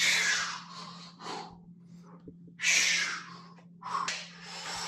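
A man breathes heavily in a warm-up video, several loud, rough breaths with short pauses between them, over a faint steady low hum. No one speaks.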